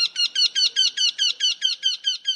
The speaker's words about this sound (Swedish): Och så göktyta.